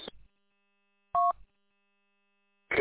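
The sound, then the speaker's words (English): A single short telephone keypad tone sounds as a phone call is being dialed, a steady two-pitch beep lasting about a quarter second, set between brief bursts of noisy sound at the start and end. “I gotta make a phone call, and I'll be back, and I'll reflect on that thing”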